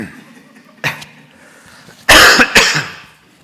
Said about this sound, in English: Okay, I'm going to have to cough again.